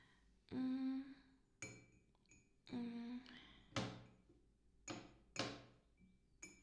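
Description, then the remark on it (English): Glassware clinks and knocks as items are shuffled around while someone rummages in an old cupboard looking for a wine glass, with a few sustained ringing tones between sharp bright clatters spread unevenly over several seconds. “I know there's supposed to be a wine glass somewhere back here.”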